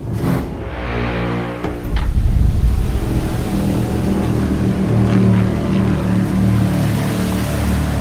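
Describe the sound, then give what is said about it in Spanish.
The outboard motor of a migrant boat drones steadily and fairly loud, a low buzzing engine hum that holds for the whole stretch over a faint wash of water, with no voices. “Los vecinos saben qué pasa cuando escuchan un sonido muy concreto. La moto.”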